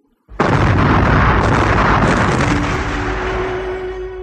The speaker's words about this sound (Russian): страшный взрыв потряс склон холма. Когда улеглось облако пыли, оказалось, что взрыв засыпал вход в нору грудой камней.